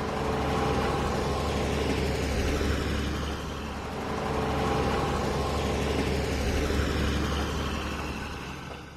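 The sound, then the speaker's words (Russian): A steady engine rumble fills the scene, swelling and easing as several cars drive along an asphalt road beside a forest after sunrise, with a deep low hum underneath throughout. “Возле леса проходила асфальтная дорога. Не успел сесть, как услышал шум машины.”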